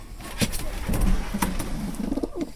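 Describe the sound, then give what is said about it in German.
Young pigeons at a training release coo softly in low, rolling murmurs, several overlapping calls repeating, with faint clicks and rustles scattered through the background, less than a kilometre from their home loft. “Wir sind jetzt vielleicht einen knappen Kilometer, nicht mal, von Heimatschlag und Heimschlag dieser Tauben entfernt.”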